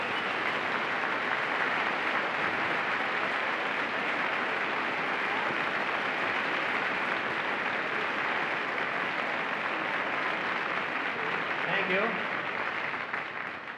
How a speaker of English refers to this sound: We'd like to have a tremendous round of applause for